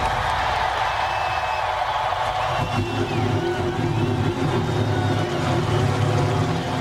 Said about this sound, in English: Now it is my honor to start this race. Gentlemen, start your engines.